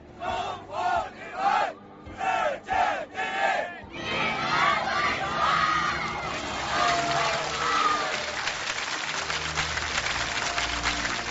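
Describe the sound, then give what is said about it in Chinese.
A parade formation on Chang'an Avenue on October 1 shouts in unison the slogan "China's women's volleyball team, world number one" as the team's parade float passes: six loud, evenly spaced chanted syllables, followed by a sustained roar of cheering voices from a crowd. “女排的姑娘们在长安街上缓缓驶过，然后我们的阅兵方阵高喊着中国女排世界第一。”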